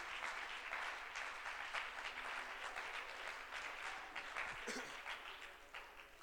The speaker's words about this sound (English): Hallelujah. Hallelujah. Can we clap our hands to a righteous God right now?